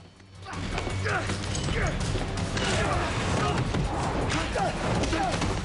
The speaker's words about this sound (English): they fight, slamming each other up against walls and punching.